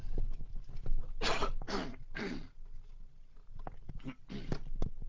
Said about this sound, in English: I'm just going to take a little drink of water and have a half cough, excuse me.